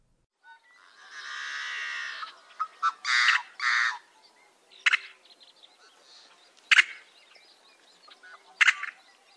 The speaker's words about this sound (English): The Yellow-Headed Blackbird.